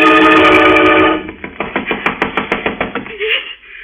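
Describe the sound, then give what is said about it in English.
A steady run of about ten sharp knocks on a door, evenly spaced and fairly loud, following a dense sustained musical tone that cuts off just before the knocking starts. “Somebody knocking.”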